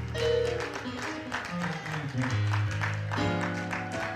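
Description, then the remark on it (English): An audience at First Baptist Church, West College Hill, gives a hand clap of praise to Jesus, clapping in a steady rhythm over sustained organ-like music, the sharp claps landing at regular intervals throughout. “Somebody come on and give Jesus a hand clap of praise in here.”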